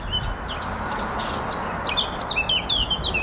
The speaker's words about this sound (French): Et je vais rajouter l'oiseau qui chantait là. C'est la fauvette à tête noire. Elle a une voix qui est un peu comme le merle, un timbre assez fort. Et la phrase est assez longue. Et elle pose une question à la fin. Le ton monte.